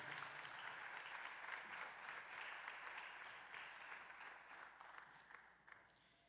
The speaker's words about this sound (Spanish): Dele otro fuerte aplauso a Dios y puede sentarse.